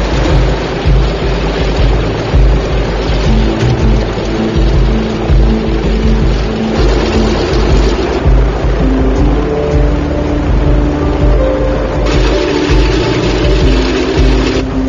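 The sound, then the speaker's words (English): A loud, steady piston engine of a DC-3 aircraft drones for the whole stretch in Cambridge Bay, its deep throbbing rumble unbroken and heavy in the low end, with no voices over it, as the crew runs it to search for an oil leak. “With the tanks topped up, the DC-3 crew can let the engine run longer and continue their search for the elusive leak.”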